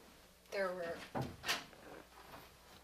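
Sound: someone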